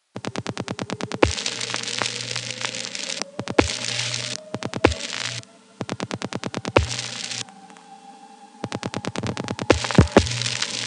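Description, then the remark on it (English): A subway train's motor whine as it speeds up and leaves the station, broadcast by the third rail and picked up by a pickup coil while recording phones during dialing: a thin whine hums steadily and slowly climbs in pitch beneath loud bursts of rapid clicking pulses and harsh crackling static. “there's a whining noise that gets broadcast by the third rail and picked up by my pickup coil, which you can hear as a drone increasing in frequency.”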